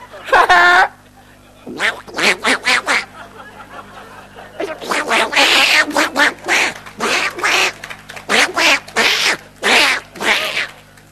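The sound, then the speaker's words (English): A voice imitates a duck, letting out a long run of rapid, raspy quacks in choppy bursts, loud, with short pauses between clusters. “God understands tongues, you know. Even if it's duck talk.”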